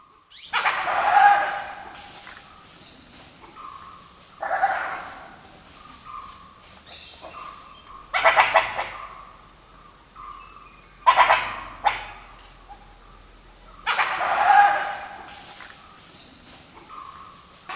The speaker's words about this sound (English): Now, Vijay was close enough to see the animal making this noise. It's a type of wild dog called a dhole. Dholes are native to southern and eastern Asia, and they're related to other canines, like coyotes and jackals.